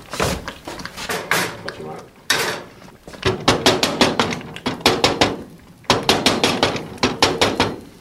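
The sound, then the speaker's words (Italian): Heavy cast iron rings clank and scrape against a metal stove top in quick bursts of loud, ringing knocks, pausing briefly between clusters, with muffled voices faintly underneath, as the rings are used to narrow the cauldron opening and lower a flame that is too high while polenta is being cooked. “riduce l'apertura della caldaia con gli anelli di ghisa per diminuire l'uscita della fiamma troppo alta.”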